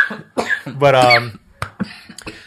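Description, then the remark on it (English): A man's strained, wheezy laugh at his own joke breaks into a few sharp, sputtering coughs as he chokes. It is loud, with short gaps between the harsh bursts. “By the way, he laughed so hard at his own joke, he choked himself.”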